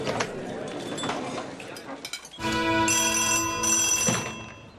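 A telephone rings loudly, a sustained electronic trill in two bursts, following a couple of seconds of muffled background noise and possible murmuring.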